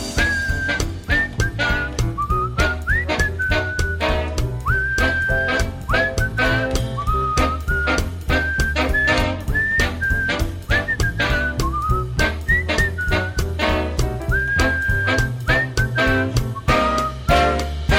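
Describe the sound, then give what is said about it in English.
A person whistles a bright, wandering melody over a loud full band backing with steady drums and bass, the whistled tune riding clearly on top for the whole passage. “Whistle solo.”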